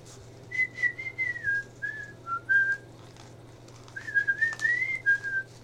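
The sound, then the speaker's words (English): A person whistles a song melody for others to guess, in two short phrases separated by a brief pause, the clear tune fairly steady over a faint low hum, with no talking. “Go on and whistle it, and then we'll try and guess what it is.”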